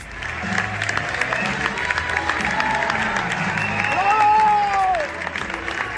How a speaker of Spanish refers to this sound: Para terminar, desde Así Somos, nos sumamos a estos aplausos del público madrileño que echaron el telón a esta 19ª Bienal de Teatro ONCE.